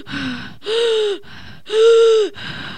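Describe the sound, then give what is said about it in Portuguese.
Ragged, irregular gasping breaths of a person after inhaling a liquid drug: two loud, strained inhalations with a tight wheezing edge alternate with softer, rougher exhales in an uneven rhythm, with no talking. “Quando o líquido é aspirado, a respiração fica descompassada.”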